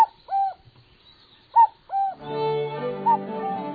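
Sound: common cuckoo call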